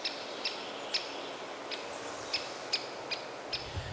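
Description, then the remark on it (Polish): A black-and-white woodpecker, about the size of a small thrush, with a red patch on the back of its head and a red rump, gives a series of sharp, high, clipped call notes, about eight in four seconds at slightly uneven intervals, over a soft steady outdoor hiss. “I właśnie, mówię, że nawołuje, bo dzięcioły nie tylko bębnią, ale też mają dość bogatą gamę dźwięków.”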